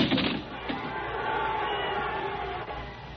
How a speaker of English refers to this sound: Another earthquake! It was pure providence. The crowd panicked and ran.